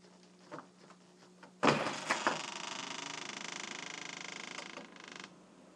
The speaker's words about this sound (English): I was going to open this front door of ours to see if I actually could, and I think it's frozen, so we're about to find out. The hard way. Turning the handle.